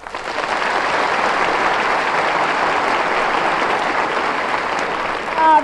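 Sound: applause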